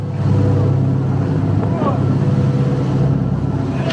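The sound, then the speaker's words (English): A Ukrainian coastal patrol boat's engine drones steadily and loudly as it sets out in high, very rough seas on the Sea of Azov, with a constant rushing wash of wind and water over it for the whole stretch. “But we gained rare access to a Ukrainian coastal patrol setting out in high seas to challenge what they say is Russia's illegal naval cordon, something Moscow rejects.”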